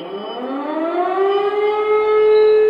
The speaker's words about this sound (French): außer dieser Sirene ist schon wieder nichts geschehen.